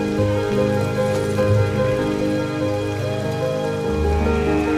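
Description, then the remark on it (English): Steady rain falls at Windsor throughout, a continuous patter mixed with sustained low tones, with no voices and no pauses in the downpour. “They ride in the rain at Windsor.”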